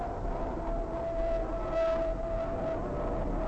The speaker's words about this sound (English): There's just some plane landing over the air base over there.